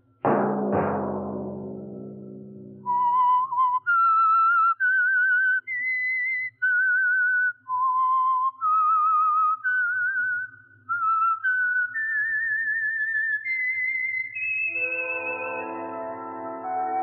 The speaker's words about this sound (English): Let that whistle be your signal each Sunday for the Signal Oil program, The Whistler.